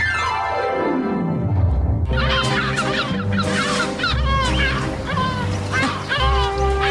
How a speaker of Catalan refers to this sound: Són aquestes gavines, Roger? Escolta'm... Estem a un port.